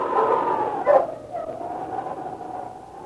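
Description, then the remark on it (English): A small mongrel dog gives a single sharp bark, set against a steady, high whining tone that carries on through the rest of the moment; no one speaks. “A small mongrel dog sat beside his chair, looking at him expectantly.”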